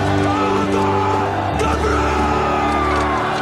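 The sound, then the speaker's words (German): A loud, sustained battle cry bellowed by many voices at once in the film Braveheart, a massed roaring shout of "Alba Gubra" (Scotland forever) that swells and holds over its whole length, dense like a charging crowd. “Und auch diesen Ausspruch, diesen Schrei, den ihr am Ende hört.”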